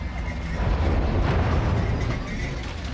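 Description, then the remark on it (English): The Mandalorian's spaceship lowers into a round hangar bay at Mos Eisley spaceport, underbelly hatches folding open and landing gear extending, and sets down in a cloud of sandy jet wash. Its engines give a loud, continuous roar with a deep rumbling low end and a hissing wash over it, steady throughout. “As it lowers into a round hangar bay, the hatches in its underbelly fold open and the landing gear extends.”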